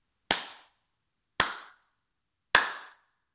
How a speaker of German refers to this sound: Und am Abend, als die Teestube voller Gäste saß, beschloss der Wirt, es gleich auszuprobieren, und er bat seine Gäste, mit ihm zusammen dreimal in die Hände zu klatschen.